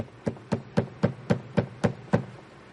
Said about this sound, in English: Next morning, there was a terrible knocking on the door.